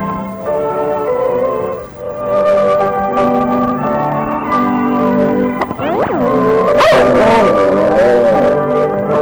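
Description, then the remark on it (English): Pedal, a Puerto Rican dog, howls in long, wavering, sing-song tones, rising and falling in pitch over several seconds, loud, with brief yips mixed in and no talking. “There was no Harold Angel singing, that was our Puerto Rican dog Pedal, just singing a Merry Christmas to you.”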